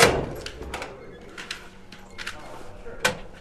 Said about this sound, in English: Those are the door locks being disengaged remotely by security staff in the control room.